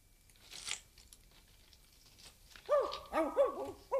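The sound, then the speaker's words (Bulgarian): A dog barks several times in quick succession near the end, sharp, high-pitched and fairly loud, after a quiet stretch with a brief crunching rustle near the start. “По-силно! По-силно! Лай по-силно!”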